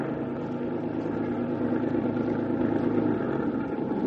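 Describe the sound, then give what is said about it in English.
A truck loaded with packing cases rolls along, its engine running with a steady, deep rumbling drone that holds an even loudness throughout, with no voices over it. “Truck stopped and I worked my way around the packing cases”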